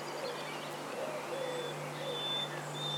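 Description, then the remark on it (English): A bird sings a faint, melancholy, thrush-like song in a minor key, in short whistled phrases, thin against a steady background hiss and a low electrical hum. “It's a beautiful, melancholy, minor key song, but it is like a thrush, isn't it?”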